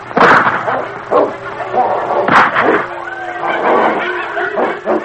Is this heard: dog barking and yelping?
yes